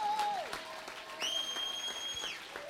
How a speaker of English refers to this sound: Oh, somebody clap your hands and shout about it.